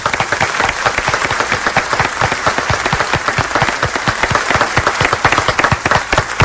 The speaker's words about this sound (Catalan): Pots aplaudir tu, si no. No, jo crec que el podríem aplaudir nosaltres per sumar-nos a una cosa que ha acabat. Un, dos, tres, va...